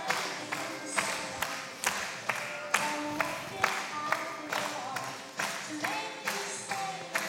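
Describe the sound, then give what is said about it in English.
An audience at a service's baby dedication claps together in a steady, even rhythm, roughly two claps per second, with faint voices or music underneath. “Come on, you can clap a little or something.”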